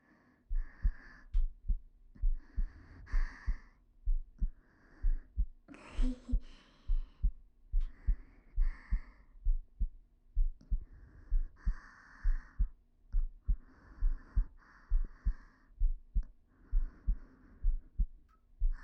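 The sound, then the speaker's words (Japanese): A steady, pounding heartbeat thumps at a brisk, regular pace for the whole stretch, with faint breathy rustling drifting over it at times. “そしたらわかると思うんです、そのドキドキが。”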